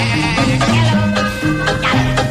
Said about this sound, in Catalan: Connectem amb l'ovella més famosa del Regne Unit. Endavant les paraules de l'ovella Dolly.